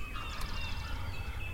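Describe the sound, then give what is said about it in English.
A wild turkey gobbles: one fast, rattling burst of throaty notes that tumble downward, fairly faint over a steady low rumble of background noise. No one speaks. “And you heard those gobbles.”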